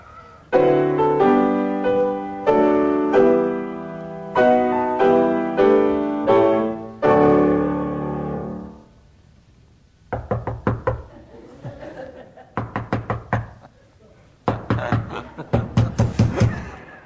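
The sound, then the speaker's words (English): A short theme tune played by a pianist on solo piano, a bright phrase of repeated chords, followed by a run of sharp, rhythmic knocking hits in quick bursts. No one speaks. “And incidentally, that was … who played the theme tune.”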